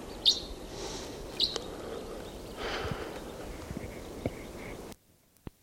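A male crossbill sings in short bursts, a few sharp, high chirps and fainter twittering notes over a steady rushing background, which cuts off abruptly into near silence.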